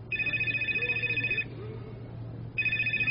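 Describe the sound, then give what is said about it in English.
A telephone rings in two clear electronic bursts, a long trill followed by a pause and then another starting, over a low steady hum with faint murmuring in the background. “Go ahead. I don't mind. No. I'm sick of phones.”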